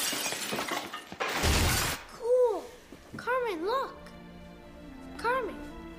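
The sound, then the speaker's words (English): Window glass shatters in a loud, sharp crash after a brief crackle, followed by a series of high, wavering vocal squeals that rise and fall. “A hooded thump-thump breaks a window.”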